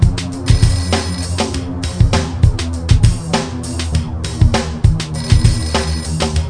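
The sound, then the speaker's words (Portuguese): A telephone rings with a loud, musical ringtone that plays continuously, a steady beat and repeating melody running throughout with no one talking. “Às 2 horas toca o telefone.”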